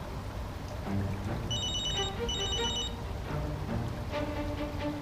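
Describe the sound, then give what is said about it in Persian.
A mobile phone rings in two short bursts of bright, trilling electronic tones, clear, over a steady background hiss with no one talking. “گوشی.”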